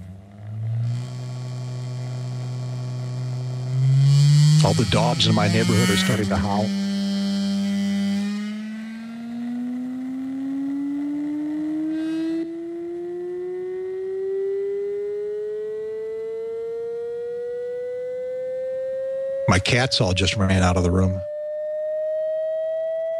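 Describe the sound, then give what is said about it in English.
A steady electronic test tone, an upward frequency sweep played through a loudspeaker to find its resonant frequencies, slowly rises in pitch from a low hum to a mid-range whine, continuous throughout, with a voice speaking briefly over it twice. Some frequencies sound louder than others, loudest around 700 hertz. “Now let's do an upward sweep of frequencies and see how it behaves.”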